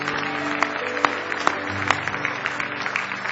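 An audience claps together as a hand clap of praise to the Lord, in a dense, steady wash of applause, with a few sharper individual claps standing out and a low sustained tone humming underneath.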